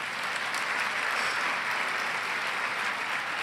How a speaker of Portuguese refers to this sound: A Bíblia, acho que ela merece uma salva de palmas, sim ou não?